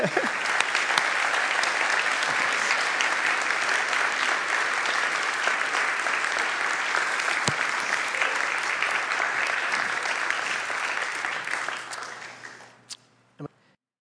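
A large audience applauds a missionary seated among them, steadily for about twelve seconds, a dense wash of clapping that fades out near the end, with a few isolated claps trailing off.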